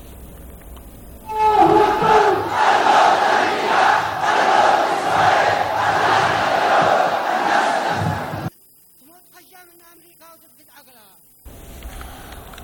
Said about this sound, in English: The Yemeni protesters chanted slogans against Israel and its main supporter, the United States. Now, they've been holding rallies Friday since Gaza war broke out in early October.